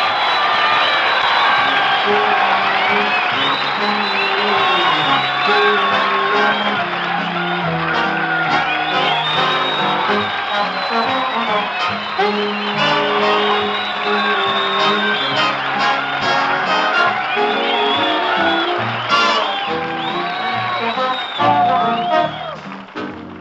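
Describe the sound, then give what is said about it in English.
A large crowd of National Guard members, friends and guests cheers, whoops and shouts in a big echoing armory hall before a singing star's show with orchestra, a dense, loud roar of many voices that stays steady for the whole stretch. “Say, we've got a real big crowd in the Armory tonight.”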